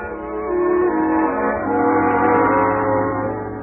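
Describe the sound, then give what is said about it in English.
A fire engine siren blares as a loud, steady, horn-like tone with rich buzzing harmonics, holding nearly one pitch with slight wavers for almost four seconds, with no voices. “Then, I dreamed the fire engine. And suddenly, I realized why. I was hearing some.”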